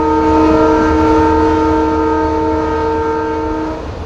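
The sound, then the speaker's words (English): A BNSF freight locomotive horn blares loud and sustained for about four seconds on a railway through a campus, a steady multi-tone chord over the low rumble of the train, cutting off near the end with no talking. “BNSF engineers blare their locomotives.”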